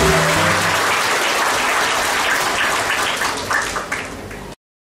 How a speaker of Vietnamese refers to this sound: Xin mời một tràng pháo tay thật lớn, thật dài của tất cả quý vị ạ.